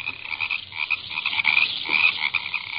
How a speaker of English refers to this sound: I listened to the merry melody of the frogs and surveyed my waterlogged domain. It was a damp, dismal swamp, surrounded on all sides by bleak prairie.